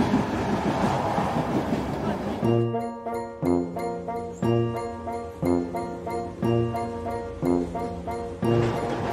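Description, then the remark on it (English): After a couple of seconds of rumbling noise, a steady rhythmic clatter starts up, a train running over rails with a clickety-clack beat repeating about once a second, fairly loud. “Did you get on the train and everything?”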